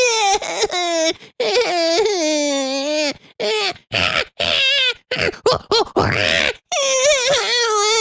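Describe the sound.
A voice imitates the shrieks of a litter of baby chimplings: a run of strained, wavering squeals and whiny cries rising and falling in pitch, broken by short gaps and some grunting catches.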